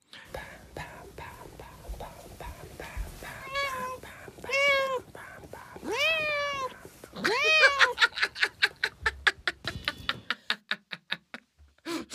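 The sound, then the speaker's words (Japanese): A cat meows several times in drawn-out, rising and falling clear calls, followed by a rapid series of sharp, regular pats or claps toward the end. “これはさ、猫ちゃんのミャオとパンパンパン別撮りなのかな、それともなんかパンパンパンって言いながら猫ちゃんのこう喉のあたりとかゴロゴロとかしてミャオミャオって言わせてその雰囲気を作ってんのかとか想像すんのがまたね面白い”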